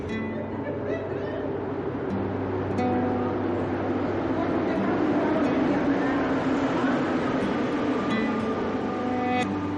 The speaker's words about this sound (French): Hop, on rentre dans le métro.